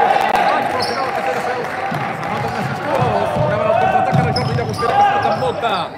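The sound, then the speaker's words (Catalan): A basketball bounces repeatedly on a hardwood court during a Club Bàsquet Valls game amid squeaking sneakers and a busy arena crowd, with a commentator talking in Catalan over the action. “Bota la pilota.”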